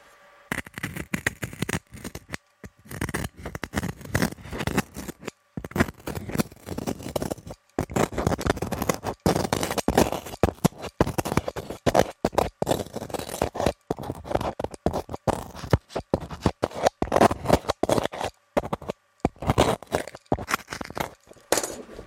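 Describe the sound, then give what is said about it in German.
Cutting through a loudspeaker's surface: irregular bursts of rasping, scraping and crackling that come in quick clusters with brief pauses between them, continuing for the whole stretch. “Ich zerschneide die Oberfläche.”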